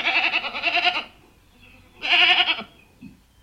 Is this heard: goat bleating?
yes